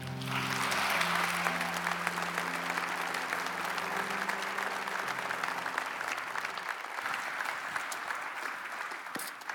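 Sustained audience applause at a church after a man shares his story, a dense wash of clapping that holds steady for several seconds and then slowly thins, with low sustained musical tones underneath for the first two-thirds.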